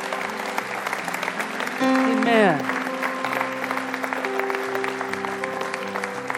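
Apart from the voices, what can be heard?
audience applause and cheering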